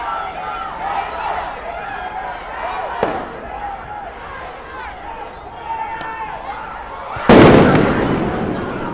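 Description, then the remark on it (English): Over the steady murmur and shouts of a large outdoor crowd of protesters facing a line of police officers in SWAT gear on 6th Street in Louisville, a firework set off by a protester cracks sharply once, then a much louder blast bursts and rumbles away as the crowd keeps clamoring. “When they came to a line of Louisville Metro police officers, stretched across 6th Street in SWAT gear, a firework was set off by a protester.”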